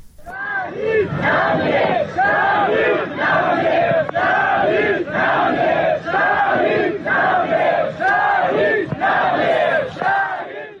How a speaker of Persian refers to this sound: اما در ایران پیکر حمید مرادی، وکیل دادگستری و فعال محیط زیست که در جریان مهار آتش سوزی کوه آبیدر سنندج جان خود را از دست داد، با حضور گسترده مردم و در میان شعار شهید نمی میرد تشییع و به خاک سپرده شد.